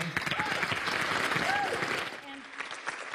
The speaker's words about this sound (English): I know it's fun to clap, but if we can hold the applause until the very end, we would appreciate it so we don't take up too much time.